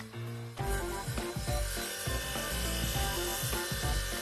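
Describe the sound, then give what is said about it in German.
A hand saw cuts steadily through wood in quick repeated strokes, fairly loud, with a rasping, scraping texture and no talking. “Ich hoffe, ich kriege das gut hin und schneide mich nicht in den Finger. Ich darf nur ausnahmsweise sägen”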